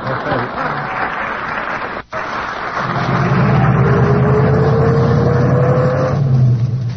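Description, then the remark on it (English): A car engine starts up and revs, its pitch climbing steadily as it accelerates and pulls away, loud over a constant rushing noise. “How do you like that Civil War wise car?”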